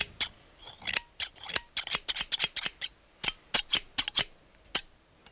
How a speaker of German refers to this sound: Das Stück … findet sich übrigens auf einer Schallplatte, die mit einem Drahtgeflecht umwickelt ist, wie man es für Käfige verwendet. Man muss das Drahtgeflecht erst durchschneiden, um an die Platte heranzukommen.